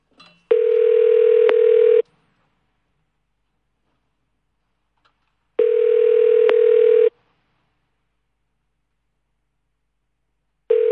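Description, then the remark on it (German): A telephone ringing tone on a call to New York, America: loud, steady mid-pitched buzzy bursts of about a second and a half, repeating with gaps of roughly three and a half seconds, no voices. “Läutet's.”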